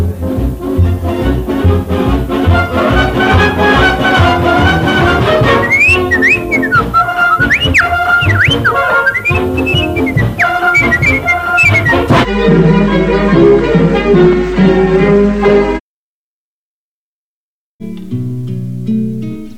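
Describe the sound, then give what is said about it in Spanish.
A bright whistled melody rises and falls over a full orchestral backing, playing a short tune that closes a broadcast, then cuts to silence before a brief musical tag returns. “Y será el zorro que cerrará la emisión con el silbidito.”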